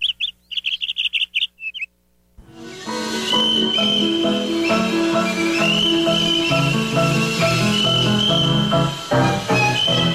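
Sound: cricket chirping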